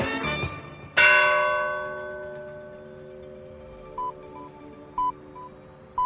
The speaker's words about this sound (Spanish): Pues hemos escuchado de fondo estamos escuchando las señales horarias y hemos escuchado de fondo las campanas del reloj del Ayuntamiento de Iniesta, que alcalde va un pelín adelantado. A ver si lo ponen en hora. Solo un pelín.